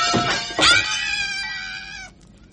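A cat gives one long, drawn-out meow, high and whiny, sliding slightly downward in pitch before cutting off. No one speaks.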